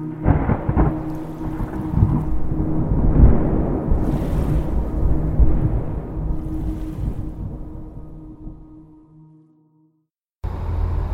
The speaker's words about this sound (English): I'm here on the ferry with my car. This boat has just left the mainland, and we're traveling across the lake to Slumberland Island. I can see it way off in the distance.